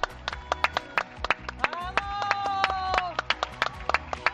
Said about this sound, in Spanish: por la noche y por la mañana sol de justicia, y así aplaude la gente.